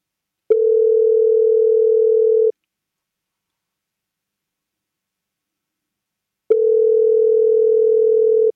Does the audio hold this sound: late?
no